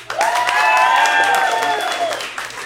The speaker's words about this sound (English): So the way I tell this story really depends on one quick thing. Could I get a round of applause if you're more of a cat person?